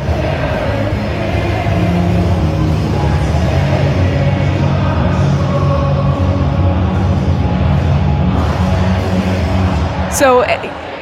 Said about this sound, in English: Here's BC's at a hockey game this year with the school-specific twist that the backtrack cuts out during the bridge, leaving the crowd to sing alone.